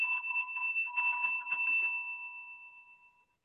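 A single sustained electronic buzzer blares with a steady, harsh tone for about two seconds, then fades out smoothly over the next second, heard alone with no talking.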